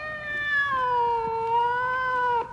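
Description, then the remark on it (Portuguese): A cat lets out one long, drawn-out meow that holds steady and dips slightly in pitch before cutting off. It sounds fairly loud, with no talking. “Ele conversa com o gato. Sabe, meu bichano”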